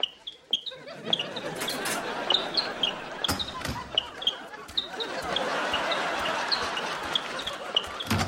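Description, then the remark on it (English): Tech Foots sneakers squeak sharply and repeatedly, short high-pitched chirps scattered throughout, over a busy murmur of voices and occasional dull thumps like a ball bouncing. “And I think these things are squeaking even louder.”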